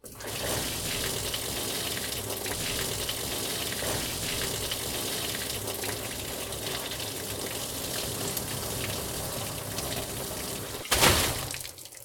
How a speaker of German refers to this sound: Sie drehte ihn um und leerte das Wasser aus, das sich in ihm gesammelt hatte.